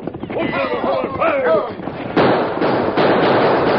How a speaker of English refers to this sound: Get away! Back off the boat and keep your eyes on all sides. Keep shooting hard so as we drop anyone that shows himself. Keep shooting, boys!